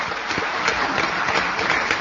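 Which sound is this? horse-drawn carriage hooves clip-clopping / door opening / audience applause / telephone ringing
audience applause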